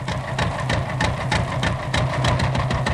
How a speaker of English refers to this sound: That's it, you guessed it. The tractor was beginning to show up on the farm, even as the gasoline buggy was appearing in the cities.